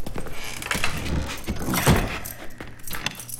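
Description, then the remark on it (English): Metallic jangling of keys mixed with clunks and scrapes, then a sharp thump near the middle as a door shuts, followed by fainter clicking and rattling as it is locked. “Is it customary to close and lock the door?”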